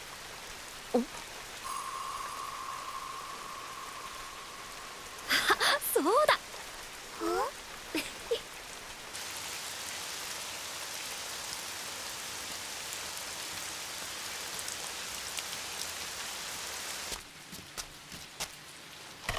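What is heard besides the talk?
rain falling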